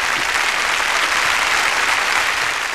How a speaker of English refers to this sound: Big applause.